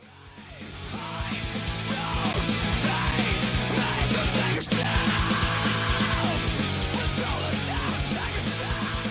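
Loud rock music plays nonstop as a singer screams and yells over heavy, distorted guitars and pounding drums, with a brief sharp hit or break in the middle of the song.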